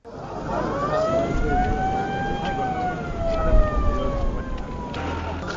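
An ambulance siren wails in one long, slow rise and fall, loud, over a steady wash of crowd and street noise with faint voices, as two ambulances carrying 13 former hostages arrive at Ngawi, a town on Cameroon's border with the Central African Republic.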